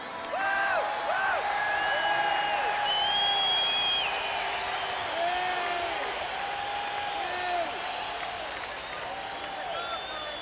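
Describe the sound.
A large crowd shouts, whoops and screams continuously while letting off fireworks during a singer's performance, with many overlapping high-pitched voices and shrill cries rising and falling over a dense, loud wash of cheering noise.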